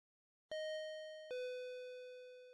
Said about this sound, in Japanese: え、もしかして今チャイム鳴らした？もうこっちに来ることないのに。